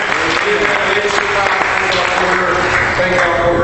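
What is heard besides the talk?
audience applause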